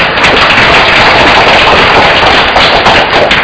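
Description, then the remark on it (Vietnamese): A large church audience applauds loudly to welcome a visiting priest, a dense, steady wash of many hands clapping at once that holds at full strength for the whole few seconds, with no voices. “Chúng ta cho cha một tràng vỗ tay thật lớn.”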